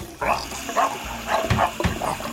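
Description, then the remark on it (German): In a kitchen, water runs steadily as a dog wearing rubber gloves over its paws washes dishes, while a dog barks several times in short, irregular bursts over the constant splashing. “Der Hund will nur spülen.”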